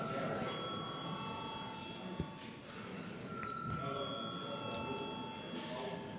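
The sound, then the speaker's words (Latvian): A parliamentary chamber bell rings steadily to call deputies to a vote on a bill, a sustained electric tone carrying over the murmur of a large room full of people moving and talking quietly. “Lūdzu zvanu.”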